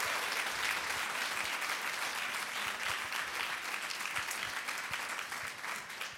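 A group applauds steadily for about six seconds to thank a man for his past year of work with the middle school group, a dense, bright crackle of many hands clapping at an even loudness with no voices over it.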